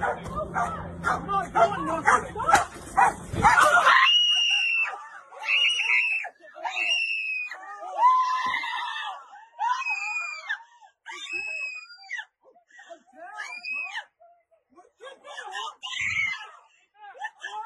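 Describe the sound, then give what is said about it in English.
A police dog attacks a man already on the ground with his hands held behind his back, on April 10: a few seconds of harsh, dense barking and snarling, then the man screams and wails in repeated anguished, high-pitched cries, loud, with short gaps between them. “Police allowing their dog to attack a man already on the ground with his hands held behind his back.”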